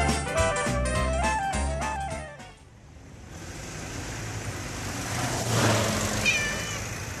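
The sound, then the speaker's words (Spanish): A small cat meows several times in quick succession, high and plaintive, for about two seconds. After a short pause a broad rushing noise of a passing car, which nearly runs the cat over, swells and fades. “Umalo da auto zgazi ovu slatku malu macu.”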